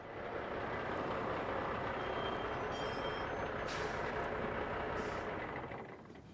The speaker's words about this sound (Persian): موتور رو خاموش کنید. ممکنه صداش متحرکا رو دور کنه.